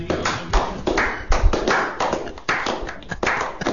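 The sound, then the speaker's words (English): Steady audience applause as a guest on the phone line is introduced, a dense wash of many hands clapping with occasional louder bursts and low thumps, continuing throughout without any voices. “I'm going to take a chance here and hope that by the time the applause finishes, he's on the line.”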